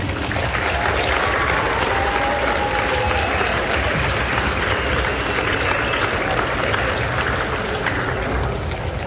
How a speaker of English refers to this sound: Let's give all of these students a big round of applause.